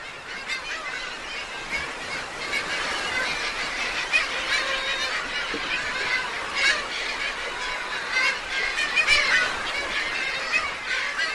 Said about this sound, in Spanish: Isla Raza en época de anidación de gaviotas.